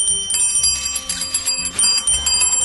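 A front desk service bell is struck repeatedly in quick succession, each ding ringing out bright with a sustained metallic shimmer overlapping the next.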